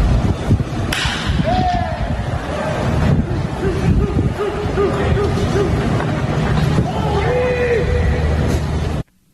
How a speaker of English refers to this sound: That was a baseball being hit hard off a bat.